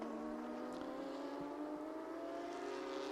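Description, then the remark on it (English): A Porsche race car driven by Toyue during a championship race drones steadily and loudly, its pitch rising gradually as it gets up to speed, with a constant mechanical whine and no voices. “So Toyue getting up to speed in the Porsche, holding second place car in the championship.”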